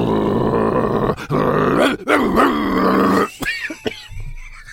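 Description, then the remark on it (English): A man, voicing Bielsa in a coffee shop, growls and grunts like an angry dog, loud, in several rough, drawn-out bursts with short breaks, ending in quieter snarling huffs. “Well, at that moment, Bielsa begins to growl and grunt.”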